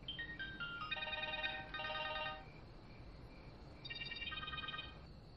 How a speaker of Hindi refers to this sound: मोहम्मद हुसैन तुम्हारा फोन है।